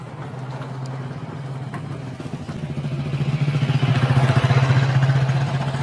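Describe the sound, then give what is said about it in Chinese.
A motorcycle engine hums steadily and grows louder over several seconds, its low rumble swelling as it approaches along a concrete road in the countryside, with no one talking. “在乡下我们比较喜欢骑摩托车和电动车，因为比较方便。”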